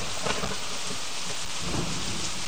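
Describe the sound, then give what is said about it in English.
Steady, dense rainfall in a video game hisses continuously across the whole stretch, with low rumbling swells underneath like thunder. No voices, just an even, immersive downpour. “So you hear that raining sound.”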